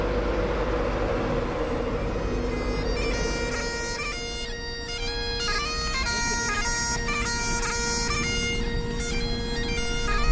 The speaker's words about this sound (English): And the biggest, longest train in and out of this station every half an hour is the one to and from London King's Cross. Edinburgh is the second biggest financial centre in the UK, and this train is the link.